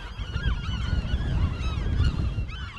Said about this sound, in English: we're swarmed by shrieking western gulls that try to hit us in the head with poop bombs